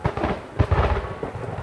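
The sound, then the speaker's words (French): Thunder rumbles loudly and steadily for a couple of seconds, with a deeper, heavier surge partway through and no voices. “Et alors, elle allait sonner les cloches, parce qu'autrefois, quand il y avait le tonnerre, on sonnait les cloches, ici, à la chapelle et à l'église.”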